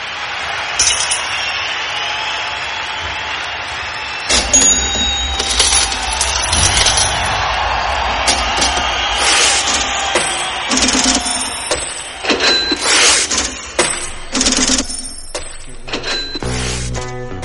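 A looping rhythm of cash register clunks and rattling, clinking coins, with bright metallic rings repeating in a steady pattern, loud, and no voices.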